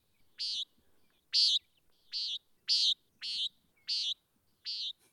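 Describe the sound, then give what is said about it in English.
A nighthawk gives a series of seven short, nasal, buzzy calls, each a brief harsh burst repeated at a steady pace with quiet gaps between, clear. “So if you're seeing funky dinosaur-like birds flying in the sky, these are nighthawks. And this is what they sound like.”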